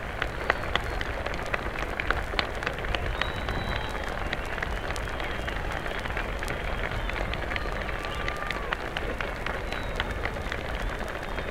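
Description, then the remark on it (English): Sustained applause from a large crowd for the President of the United States as he stands at the speaker stand, bowing, after being introduced by the mayor; a dense, even wash of many hands clapping at once, steady and moderately loud throughout with no voices standing out. “The president is standing there now at the speaker stand, acknowledging the plaudits of the crowd, bowing.”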